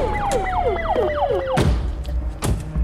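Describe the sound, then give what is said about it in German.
A police siren yelps in quick, repeating downward sweeps over a steady tone, then cuts off as two heavy thuds land about a second apart. “Hast du noch nie eine Polizeisirene gehört?”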